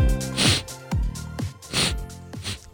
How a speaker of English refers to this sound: Maybe you're thinking, isn't it a little bit rude to be sniffling with the microphone on? This is Wretched Radio. Of course it's rude,